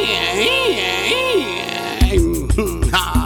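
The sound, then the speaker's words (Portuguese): A voice mimics the engine roar of a wheelbarrow with two rising-and-falling vroom sweeps, then breaks into short, punchy rhythmic bursts like a sputtering motor. “Olha só o ronco do motor do meu carrinho de mão.”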